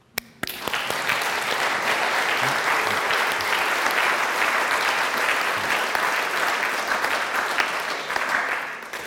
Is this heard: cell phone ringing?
no